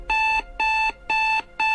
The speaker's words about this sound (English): Are you having a hard time waking up in the morning? Your old alarm clock not doing the trick? Or are you tired of that dated alarm sound?